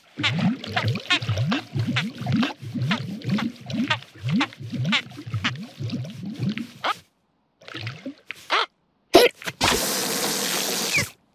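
An elephant gulps down a lot of water in a quick, steady run of wet swallowing and slurping sounds, followed by a brief pause and a short, noisy splash at the end.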